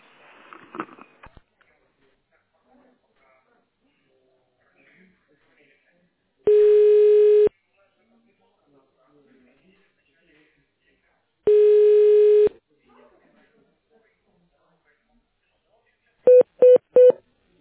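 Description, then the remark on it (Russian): Telephone tone dialing on a call to the company Error City, keying an extension number in tone mode: three quick, loud keypad beeps in a rapid burst at the end, preceded by two long, steady phone tones separated by silence, with a brief voice at the very start. “Если вы знаете внутренний номер абонента, то наберите его в тональном режиме.”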